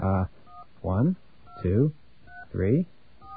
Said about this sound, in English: Now, that tone, it wants touch tones. So let's give it some touch tones.